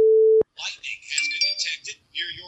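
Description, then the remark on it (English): A phone's weather alert sounds as one steady, fairly loud electronic beep lasting under half a second, then a thin, tinny automated voice speaks from the phone speaker. “Lightning has been detected near your location.”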